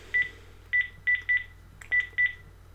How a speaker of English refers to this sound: I'm going to dial it again, and this time I'm going to show you what other functions you've got actually on the watch face when a phone call comes in. So, dialing again.